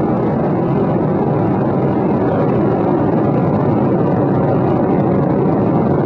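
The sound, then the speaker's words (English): The three liquid-fuel main engines of space shuttle Discovery roar during launch toward the International Space Station, throttling back to 72% of rated performance about six seconds into flight, in a continuous, thunderous blast of deep rumbling noise, loud and steady for the whole stretch with no voices over it. “Six seconds into the flight, the three liquid fuel main engines now throttling back to 72% of rated performance, going in the bucket, reducing the stress on the shuttle as it goes supersonic.”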